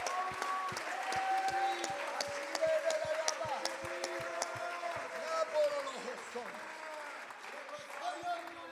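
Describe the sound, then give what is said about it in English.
A church audience applauds at the preacher's call to clap, with brisk, fairly rhythmic clapping at first that loosens into a steady crowd applause, mixed with raised voices calling out and sustained vocal tones throughout. “Somebody clap your hands, lift your voice, magnify God. Dale un fuerte aplauso.”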